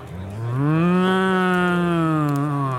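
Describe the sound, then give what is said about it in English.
A single long, drawn-out cartoon cow moo from Moosador, a blue cow character, loud, swelling in at the start and holding a steady low pitch for a couple of seconds, with no talking. “What's that blue cow?”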